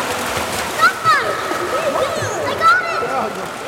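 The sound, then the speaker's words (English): Busy splashing and slapping of pool water by children at a swimming lesson, trying to snag rings their teacher has tossed, with several sharp bursts over a steady watery wash, while children's high-pitched voices call out in the background. “Nearby, others splash and slap at the water, trying to snag rings their teacher has tossed.”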